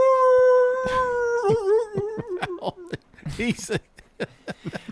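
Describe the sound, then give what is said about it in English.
A person imitates a dog with a long, sustained wolf-like howl that wavers and breaks into yips, then dissolves into laughter and short bursts of chatter. “That went from a regular dog to a wolf real quick.”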